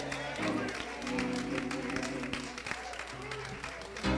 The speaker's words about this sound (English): Don't stop clapping your hands.